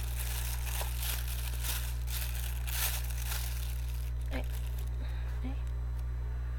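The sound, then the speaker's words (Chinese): Paper tearing and crinkling as a stapled paper package is ripped open, several rough bursts over the first few seconds, then quieter handling with a few small clicks over a steady low hum. “现在我来开一个，开一个东西。”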